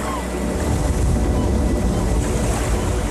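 Sea waves wash in a steady, unbroken roar with a deep rumbling low end and a hiss on top, holding an even loudness for a few seconds without distinct breaks.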